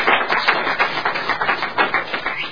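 A crowd applauds steadily, dense overlapping claps forming a bright, even wash of sound that holds at a fairly loud level without voices for the full few seconds.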